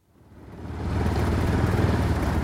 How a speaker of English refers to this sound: I traveled for hours on the back of a motorcycle to Nepal's southern plains to meet Birendra Mahato.